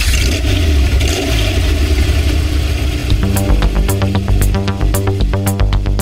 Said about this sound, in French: Je commande la mise à feu du moteur 12 cylindres et on part.